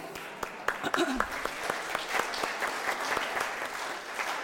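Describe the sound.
Steady applause from a crowd for a community fundraising team, many hands clapping in a dense, continuous patter, with a brief voice or cheer rising faintly near the start.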